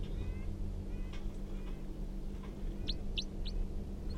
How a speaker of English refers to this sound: Now pointed back up at the wild bird who's giving a few calls.